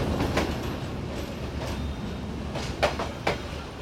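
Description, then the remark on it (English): The LE8 train approaches a station along railway tracks with a steady, low rumble, punctuated by a few sharp rhythmic clacks of wheels over rail joints, moderately loud, with no voices. “LE8 train is approaching.”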